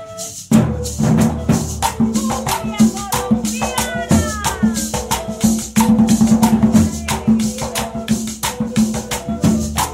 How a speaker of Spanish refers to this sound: Por ejemplo, la cumbia en formato gaitas suena así.